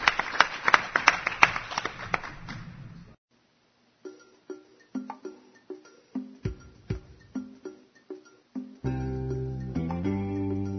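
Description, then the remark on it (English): About three seconds of dense crowd applause for the speakers at the end of a session of presentations stop abruptly. After a short silence comes a steady run of chiming, bell-like strikes, then sustained tonal music. “I think we can give another round of applause for all of our speakers.”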